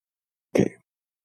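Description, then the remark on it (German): A single short burp, fairly loud, a brief guttural croak lasting under half a second in otherwise quiet surroundings. “Ja, wo du vom Rülpsen gesprochen hast, da ist mir doch etwas entglitten gerade.”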